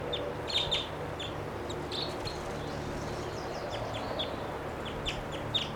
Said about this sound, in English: There are two birds here, wild. This is the upper one. There's a lower one. He's coming down. And there's still a third wild bird coming around.